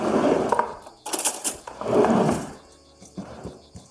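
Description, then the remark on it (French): A fork coarsely mashes 200 g of feta cheese into herbs in a mixing bowl for a stuffing: bursts of soft squishing and scraping with sharp metallic clicks against the bowl, in uneven strokes, fairly loud, with no talking. “Voilà, j'ai sorti ma fourchette et je suis en train d'écraser grossièrement la feta dans mon cul de poule.”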